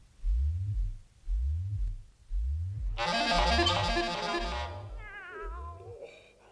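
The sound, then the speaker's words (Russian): A cat named Aglaya, settled on a pillow, purrs steadily, its low rumble pulsing in a slow, even rhythm, while midway a bright, drawn-out meowing sound rises over the purr and then fades. “Вы смотрите, смотрите, Аглая прекрасно устроилась на подушке и мило мурлычет.”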